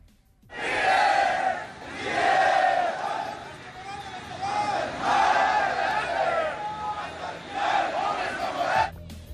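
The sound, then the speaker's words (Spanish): A large crowd shouting in unison near Terminal 1 of Mexico City airport, loud chanted bursts rising and falling in waves for several seconds, with many voices blending into a continuous roar between the peaks. “Estos fueron los gritos que se escucharon durante varias horas en las cercanías del aeropuerto, la Terminal 1 del aeropuerto de la Ciudad de México”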